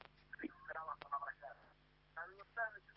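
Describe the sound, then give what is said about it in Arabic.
A television plays in the background of a caller's phone call from Palestine, its muffled, tinny voices coming in intermittent bursts over the narrow telephone line, with no clear words. “وطي الهاتف يعني أخفض التلفزيون.”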